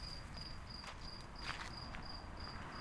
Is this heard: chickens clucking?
no